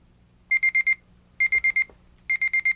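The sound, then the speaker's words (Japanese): An alarm clock beeps in three quick bursts of four sharp, high electronic tones each, loud, with brief pauses between the bursts, sounding when the set alarm time is reached. “アラームボタンを切り替えまして、アラームをセットします。”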